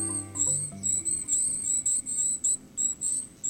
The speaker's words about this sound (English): These thin silvery calls coming from the forest belong to a survivor, the golden-crowned kinglet. This bird weighs 6 grams, about the same as 2 pennies, yet they winter as far north as Alaska and Nova Scotia.